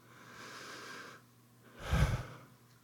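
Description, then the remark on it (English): A slow, deep breath in followed by a stronger, fuller breath out, with no talking. “That is God breathing through you. And that's why the breath has become such a sacred symbol in all kinds of spiritual paths.”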